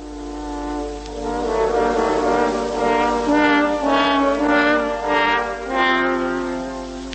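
Three French horns play the wolf's theme together: a dark, sustained brass melody in rich harmony, with swelling phrases and slow rising and falling notes, steady and fairly loud throughout.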